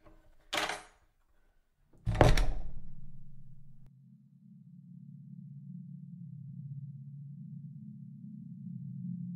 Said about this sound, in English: As you reach the end of the corridor, you watch in amazement as a large wooden door appears out of thin air. Your friend opens the door, and you both walk inside.